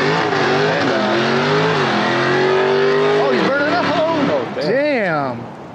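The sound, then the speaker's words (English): A loud, close V8 muscle car engine roars steadily, then revs up and down in several quick surges as it pulls past and begins to fade. “That was a Dodge. We think it's Dodge Charger or Challenger.”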